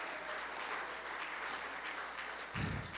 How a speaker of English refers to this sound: Somebody ought to clap your hands unto the Lord.